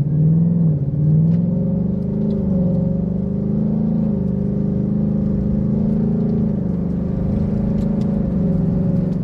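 A Mustang engine rumbles steadily at low revs, a deep, continuous throaty growl with only slight swells in pitch and no voices.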